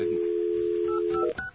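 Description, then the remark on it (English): A steady, low telephone dial tone hums for over a second, then cuts off as a single short touch-tone beep sounds, a higher two-note dialing chirp, as a phone line is dialed to call in a guest. No one speaks. “now you know the first number and his phone number is 1”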